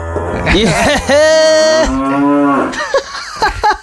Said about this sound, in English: I feel like that cow is probably indoors by the sound of it. It says he's in a barn or something.